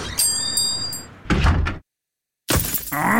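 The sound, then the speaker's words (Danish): A stone chip strikes a car windscreen: a sharp, hard crack cuts through steady road hum, then everything drops to silence before noisy sound with a whine returns. “Et steneslag!”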